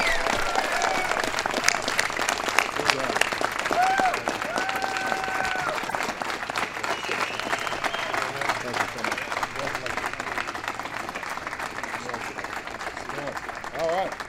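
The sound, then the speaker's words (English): A large audience applauds steadily for the Super Bowl champion Denver Broncos at a celebration of their season with the President, a dense, loud wash of clapping with scattered cheers and murmuring voices mixed in. “So please give one more time Super Bowl champion Denver Broncos big round of applause.”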